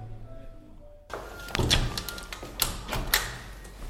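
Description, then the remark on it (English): Several sharp knocks on an office door in a city centre office block, spaced irregularly over a few seconds, moderately loud against a low background hum, as a BBC reporter seeks answers from a company. “The challenge now is to find out where they're based, knock on the door and get some answers.”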